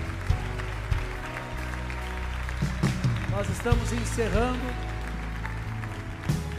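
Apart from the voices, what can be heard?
audience applauding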